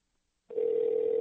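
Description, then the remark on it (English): After a brief silence, a steady electronic phone tone starts abruptly and holds at an even level: the ringback of an outgoing call placed from a phone's contacts during a live 24/7 Sports broadcast to get a guest back on the line. No one speaks. “So anyway, let's get Evan back on the phone here, as I've tried to vamp for the moment being, but here we go.”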